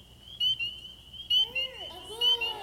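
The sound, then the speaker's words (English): A steady, shrill high-pitched trill of spring peeper frogs, punctuated by four louder, sharp peeps. In the second half, lower swooping tones rise and fall beneath the chorus. “It's a spring peeper. Does everybody know what a spring peeper is? It's a type of frog.”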